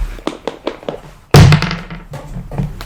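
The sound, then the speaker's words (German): Dice, including a D20, rattle and clatter out of a dice cup: a series of light rhythmic taps, then a loud sudden thunk followed by a brief scatter of rolling clicks that quickly settles. “Wenn ich einen D8 dazu werfe? Ja. Ah, hier ist der D20. Ich hätte eher einen D20. Und den Würfelbecher.”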